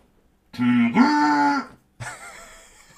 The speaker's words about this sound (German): das hier, liebe Pillen-Army, ist eine ganz stinkordinäre grüne Gießkanne. Achtung, damit kann man geile Soundeffekte machen. Pass auf.